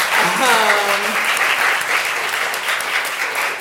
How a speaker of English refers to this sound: So a round of applause for independent publishers in the back.